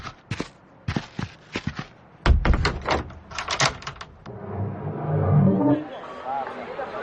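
Sharp clicks and clatters of a key unlocking a door in the morning give way to a low, creaking rumble as the door swings open.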